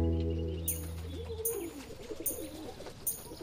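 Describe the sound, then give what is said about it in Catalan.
A family of pigeons in a park coo in low, throaty warbles while pecking bread crumbs on the ground beside a bench, a steady hum at first and then a run of soft, rolling calls, with no one talking. “Ara arriba una família de coloms i comença a picar les engrunes.”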